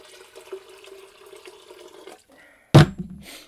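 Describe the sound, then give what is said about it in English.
Water runs steadily into a kettle for about two seconds, a hollow filling sound, then stops; a sharp clunk follows, with a brief rattle after. “I'm going to put the kettle on again. Is there enough water?”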